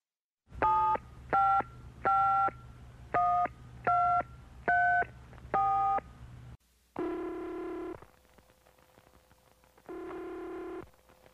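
A quick series of seven electronic keypad beeps, evenly spaced, followed by two longer ringback tones with a pause between, as a man phones a friend in an acted example call; no one speaks.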